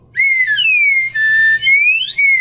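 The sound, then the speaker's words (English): A slide whistle, played as the incorrect-answer sound in a quiz game, plays a loud, steady note that dips gently in pitch and then rises again, with only slight sliding and a few brief breaks over about two seconds. “this not very slidey slide whistle.”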